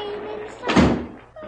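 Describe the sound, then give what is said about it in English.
A door is shut on command in a scene with Mr. Scrooge and Cratchit: a single dull, heavy thunk that swells and fades over about a third of a second, with a faint voice and a low steady tone underneath. “Shh, shut the door.”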